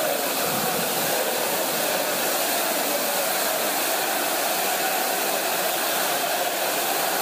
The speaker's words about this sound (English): It's now hailing. Can you hear it?